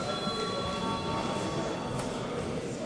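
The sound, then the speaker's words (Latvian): A parliament voting bell rings before a vote on a bill in first reading, without a break, a harsh, steady electric buzz with bright ringing tones that holds at an even loudness throughout, with no one speaking. “Lūdzu zvanu.”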